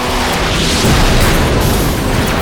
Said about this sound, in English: I didn't see, but I heard and felt, the explosion. The heat was searing.